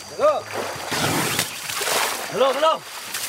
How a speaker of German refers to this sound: Schwimm oder Spritz, das ist es, was die Elefanten tun sollen. Sie müssen sich sowieso abkühlen.